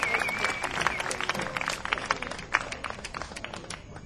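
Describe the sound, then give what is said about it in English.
An audience claps for the band in a steady, dense patter of many hands, with a brief high whistle early on and faint crowd noise underneath. “Give the band a round of applause.”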